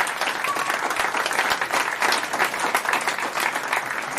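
An audience claps steadily for several seconds after a musician has played, a dense, even patter of many hands at a loud, sustained level with no voices over it.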